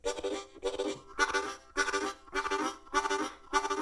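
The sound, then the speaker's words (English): A harmonica plays a steady chugging rhythm of short, breathy chord bursts drawn on the inhale, about seven pulses in under four seconds, imitating a train rolling along the rails. No one speaks. “Now the actual train moving and rolling down the rails is a...”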